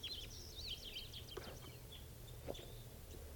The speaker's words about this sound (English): Lovebirds. It's a male female pair. Male. Male there. This is a female, followed by the male.